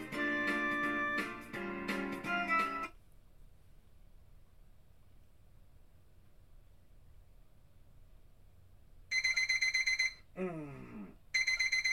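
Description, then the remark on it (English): After a long stretch of near silence, a loud electronic alarm clock rings in a bedroom in shrill, steady bursts, briefly broken by a falling warble, with a bright chiming sound at the very start. “My alarm clock is going off.”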